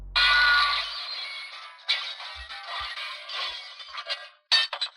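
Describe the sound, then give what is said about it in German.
Glass shatters with a loud crash, followed by a few seconds of scattered tinkling shards settling, ending with a short final clink burst. “Da ist ein Glas drauf. Ich dachte, das wäre so ein... Nee, ist ein Scherben.”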